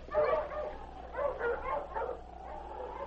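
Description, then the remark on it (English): Sled huskies yelp and bark excitedly as they are urged to set off pulling a sled, a quick yipping burst followed by a longer cluster of high, whiny barks over a low steady hum. “Mush! Mush, you huskies! Get on!”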